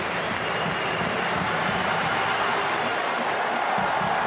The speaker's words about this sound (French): Morgan Parra a la première opportunité dans ce match après 3 minutes de jeu. Sous les applaudissements de la Viva.